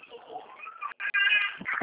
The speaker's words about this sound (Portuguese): Só um minutinho, meu bebê tá chorando, tô querendo te escutar.